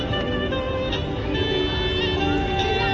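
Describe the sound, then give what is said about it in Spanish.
A traffic jam across the whole city centre of Vigo: a dense, steady wash of engine rumble and street noise, with sustained tonal notes layered over it, holding at an even loudness throughout; public loudspeakers boom at over 70 decibels. “Este é o son do atasco en toda a zona centro da cidade que os veciños denuncian xunto cos máis de 70 decibelios aos que retumba a megafonía.”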